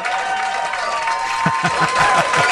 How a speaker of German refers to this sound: Hier kommt ein Applaus.